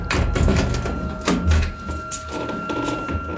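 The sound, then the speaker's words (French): Metallic scraping and clicking as a locksmith works the lock of a maids' room door, followed by a dull thunk and the creak of the door swinging open, with no voices. “Le serrurier à l'œuvre, la porte s'ouvre.”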